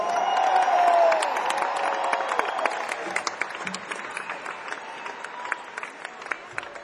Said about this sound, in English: While you're in such a great mood, give a warm round of applause to our B3 organ player, Todd Caldwell.